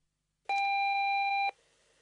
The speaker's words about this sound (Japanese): ただいま留守にしております。発信音の後にお名前とご用件をお話しください。